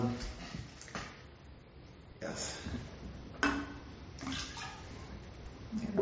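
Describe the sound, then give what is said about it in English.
Water used for washing bowls is poured and gathered into a container in several short, splashing bursts, moderately loud, with a faint murmur of voices in the background. “So the last verse, after we've collected the water, that's also an offering to all beings, and that's later on after the whole.”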